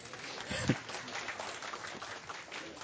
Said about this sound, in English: So praise the Lord for that. You can clap for that.